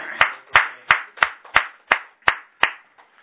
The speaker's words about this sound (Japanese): 満56歳を迎えられましたので、盛大な拍手でお祝い。